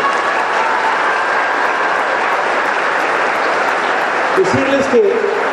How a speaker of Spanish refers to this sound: Felicidades y un aplauso para todos ustedes.